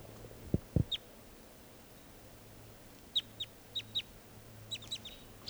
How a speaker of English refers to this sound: Recording, the wild birds are still here, up in the trees near the net. This is one of them calling.